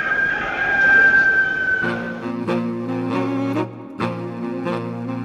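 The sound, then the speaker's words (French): A hotel's rooster lets out a long, drawn-out crow, followed by sustained harmonic tones punctuated by a few sharp, evenly spaced hits. “Faire les pans sous un coq, visiblement la seule technique valable pour organiser les Jeux en 2008.”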